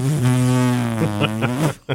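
A chair lets out a long, low, buzzing squeak as a person scooches down in it, sounding almost like a fart, holding a steady pitch with small wobbles before cutting off, then a brief final squeak.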